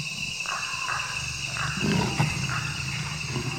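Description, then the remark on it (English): A wild cat's low, rumbling growl rises in a few rough pulses beside a tropical forest trail, over a steady bed of tropical frog, insect and reptile chorus, including a persistent high buzzing whine. “Only then did I hear the cat's low growl in my headphones.”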